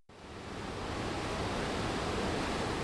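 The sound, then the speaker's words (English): A steady, dense roar of rushing water fills the whole clip, loud and unbroken: the Blackstone River, swollen by three days of steady rain and flooding, pours down Valley Falls in the town of Cumberland, just north of Providence, Rhode Island, with no voices. “3 days of steady rain caused the Blackstone River to swell dramatically, sending waves of water crashing down Valley Falls in the town of Cumberland, just north of Providence.”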